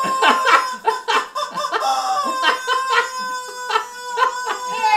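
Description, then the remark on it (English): A chicken squawk sound effect plays, a loud run of shrill, squeaky squawks and clucks in rapid bursts lasting several seconds, with no talking underneath. “That was a good spot to get out the chicken.”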